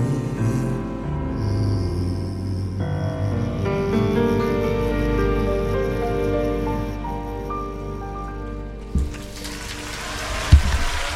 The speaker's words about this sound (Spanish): Y estos aplausos son para nosotros. Para quiénes más, si no.